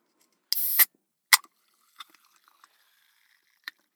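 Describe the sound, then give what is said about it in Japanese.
The cap of a chilled bottle of cider soda twists open with a sharp hiss of escaping gas, followed by a quick snap and a few faint clicks and fizzing crackles as the carbonation settles. “うん、じゃあ開けるね。”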